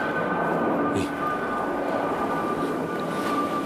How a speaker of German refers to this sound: Und da ist auch irgendwo ein Flugzeug. Nein, ich versuche gar nicht erst rauszufinden, wo das ist.